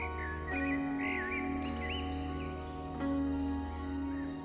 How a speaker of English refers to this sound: His name is Feng Huang, which means Chinese phoenix. He is a bird of beautiful plumage and is able to sing for hours and hours, bringing happiness to anyone who listens.